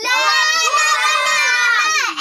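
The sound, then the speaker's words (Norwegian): A group of young children in a studio shout their own names loudly all at once on a count of three, their high voices overlapping in a dense, sustained burst that lasts about two seconds and then breaks off. “Og når jeg teller tre, da kan alle sammen rope høyt hva dere heter.”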